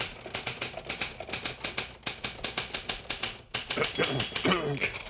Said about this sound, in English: Because you see this typewriter? Yes, I see that typewriter.